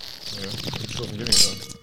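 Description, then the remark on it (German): Wine glasses clink together in a toast during a wine tasting, a quick, bright, high-pitched ring near the end, over a low murmur of voices and background bustle. “Prost.”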